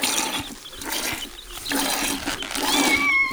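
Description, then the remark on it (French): A cat named Minet, offered milk on a farm during milking, gives a short, high meow near the end, rising out of steady rustling, crackling background noise that runs throughout. “Ah, te v'là, Minet. Tu veux du lait?”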